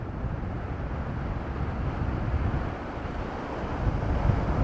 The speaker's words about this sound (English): When the wind is really quiet, you can actually hear the waves crash on the beach, and you hear like this white noise of breaking water on the ocean.